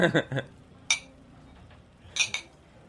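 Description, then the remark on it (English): A few bright, sharp clinks of drinking glasses tapping together in a summer toast, a single knock followed by a quick double tap, with brief murmured voices at the start. “Do you have a toast? To getting drunk all summer and yeah.”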